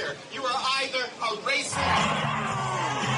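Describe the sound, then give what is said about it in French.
A large crowd at a protest in Ottawa chants and shouts together, "Si l'on n'est pas raciste, on est antiraciste", loud rhythmic voices rising and falling in waves, then swelling into a sustained roar of many people at once. “Autour de lui, la foule d'Ottawa scande « Si l'on n'est pas raciste, on est antiraciste ».”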